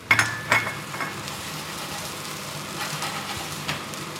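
Pancakes frying in a pan in a kitchen, frying fat spattering onto the stovetop, a steady hiss of sizzling fat with scattered crackles and pops, opened by a couple of sharp metallic clinks of a utensil against the pan. No one speaks.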